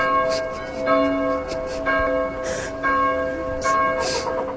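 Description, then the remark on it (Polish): Church bells in a highlander community ring steadily, calling the faithful to services. Their overlapping tones are sustained and humming with rich overtones, several strokes blending into a continuous, mournful peal with no voices. “Smutno brzmią nawet dzwony zwołujące wiernych na nabożeństwa.”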